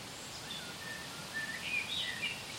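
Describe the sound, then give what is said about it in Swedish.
A blackbird perched high up whistles a few short, thin, high-pitched notes, faint and scattered over a steady background hiss, growing slightly busier toward the end. No one speaks. “Ja, visslar.”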